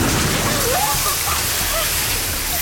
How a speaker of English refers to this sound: It worked. The fire's going out. But the room's filling with water. The door's still locked.